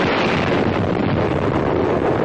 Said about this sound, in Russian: Дух страшной силы сопутствует приходу ударной волны. Это прошла вторая отраженная ударная волна.